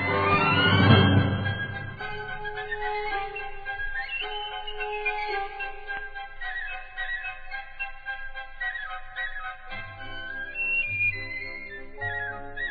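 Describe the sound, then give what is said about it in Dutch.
A bright, high piccolo-like flute whistles a lively tune for several seconds, played clearly up close over soft low accompanying notes, with no talking. “Het instrument van allemaal was Pibi, een klein piccolo met 8 knopen op zijn jas. En wat konden die fluiten?”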